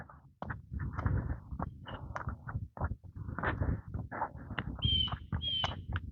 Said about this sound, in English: Blue jay having a little bit of a yell. Two blue jays having a yell off.